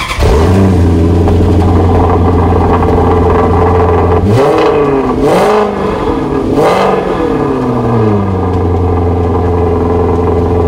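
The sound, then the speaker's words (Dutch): The engine of an Italian Maserati Quattroporte idles with a deep, steady rumble, then revs sharply three times in quick bursts, pitch rising and falling, before settling back to idle. Loud, with no voices. “Ja, en dat was een prachtige Maserati Quattroporte zelfs.”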